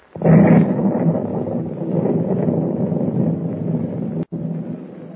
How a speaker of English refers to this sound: If those explosions are what I think they are, we'll be sinking any minute, and we won't be able to do a thing to save ourselves. Yeah, that was a bad one, lad. Rocked the whole ship.